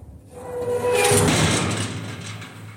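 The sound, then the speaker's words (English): A man pulls a massive iron door of a copper-lined vault shut, sealing the room: a loud metallic scraping swell followed by a deep, lingering rumble that slowly fades, with no voices. “Then, as we left that copper-lined vault, he pulled the massive iron door shut to seal the room.”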